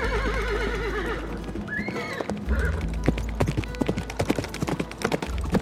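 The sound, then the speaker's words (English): Horses' hooves clip-clop in a steady, rapid rhythm of sharp knocks, with a horse's whinny rising early on and a low rumbling bed underneath. “Onward, my horses. Take us home.”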